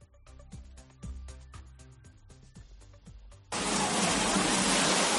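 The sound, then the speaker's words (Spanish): After a few seconds of rhythmic music, a loud, dense roar of torrential rain cuts in abruptly and pours on steadily and heavily until the end: a downpour in the town of Zafra, Extremadura, Spain. “Así sonaba la tromba de agua que ha caído en la localidad extremeña de Zafra,”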